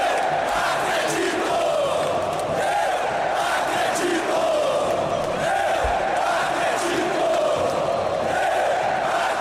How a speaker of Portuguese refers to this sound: No trecho a seguir, destacamos o apoio da torcida do Galo ao clube.